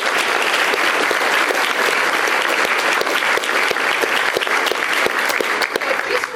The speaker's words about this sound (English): He is one of the busiest ministers that we have, so give him a round of applause for all of the work. Thank you.